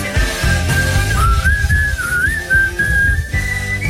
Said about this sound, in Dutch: Even dat laatste stukje een beetje fluiten natuurlijk, hè.